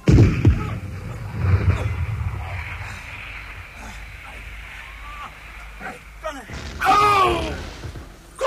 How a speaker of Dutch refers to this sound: Kolonel, ik zag het gebeuren. Een lading netten raakte het kanon midden op de loop juist toen het schoot.